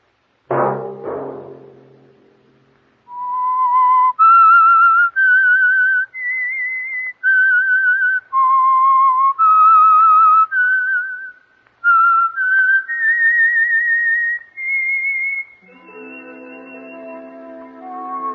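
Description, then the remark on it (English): The Whistler radio program's signature tune: a solo whistled tune, loud, moves through a slow melody of long held notes that rise and dip, after a brief dull thump at the start, then gives way to a sustained instrumental chord; the signal for the Signal Oil Program. “That whistle be your signal for the Signal Oil Program and the Whistler each Sunday night at this same time.”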